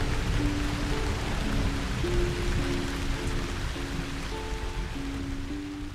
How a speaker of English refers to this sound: A shower helps get the tension out of your shoulders, and the rain falling on your roof helps lull you to sleep.